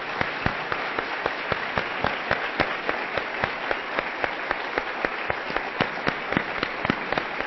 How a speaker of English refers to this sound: Let's give Rob Bell a big hand. Thank you so much.